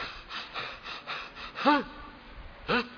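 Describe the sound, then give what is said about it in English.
A person imitates Mahaprabhu crying for Krishna and breathing heavily: a rhythmic series of loud, rasping breaths, with two sharp, voiced gasps near the end. No talking. “Saying like this and breathing heavily.”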